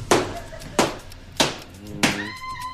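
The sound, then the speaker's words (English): Four heavy, evenly paced stomps land about two-thirds of a second apart, each a loud, dull thud; a faint tonal ringing lingers after the last one. “And are you stomping here? I was stomping, yeah.”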